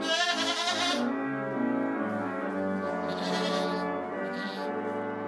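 Goats bleat loudly and repeatedly, singing along as a neighbor plays Joy to the World on an organ, a steady, sustained melody, their wavering cries blending with the held chords.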